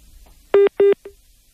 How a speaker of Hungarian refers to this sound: Lerakták a telefont.